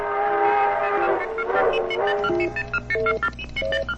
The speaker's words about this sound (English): as you rocketed your way by crack train from Tulsa to Kansas City for that important Monday morning appointment.